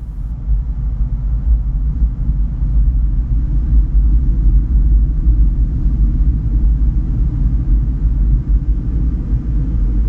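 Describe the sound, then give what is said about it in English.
A deep, steady rumbling drone of a Sitka spruce driftwood log resting on Rialto Beach in Olympic National Park, vibrating from the sound of the ocean waves while the water does not touch it, loud and continuous throughout with no distinct beats and no voices. “What we have just heard is the vibration of the Sitka spruce log after it's floated down the Quileute River and it comes to rest on Rialto Beach.”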